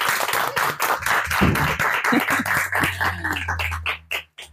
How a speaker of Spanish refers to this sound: Yo pediría un aplauso para vosotras